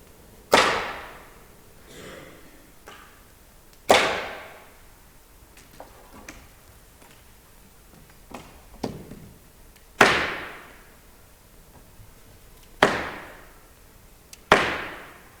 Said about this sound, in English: And listen for the sound of the size of the room. You'll be able to hear how large the room is around you. And you'll hear the echo of my cane from the back of the room.